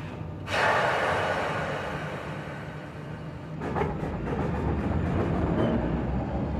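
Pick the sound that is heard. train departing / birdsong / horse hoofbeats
train departing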